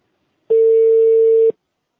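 A single steady telephone tone sounds for about one second, clear and fairly loud against silence, like one beep of a phone line after keypad dialing on a call to Zhengzhou People's Hospital. Nobody speaks.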